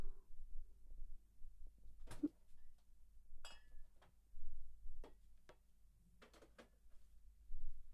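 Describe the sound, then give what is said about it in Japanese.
Leftover drinks are put away in a refrigerator: a handful of sharp, irregular clinks and taps of bottles being set down, with soft shuffling and a low steady hum between them. “さてと、余った飲み物は冷蔵庫に入れとくか。”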